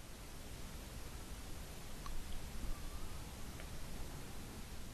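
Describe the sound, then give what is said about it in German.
Soft, steady rush of ocean surf washing on a sandy beach, with a faint swell in the middle and no voices. “Und du kannst das Rauschen des Meeres hören.”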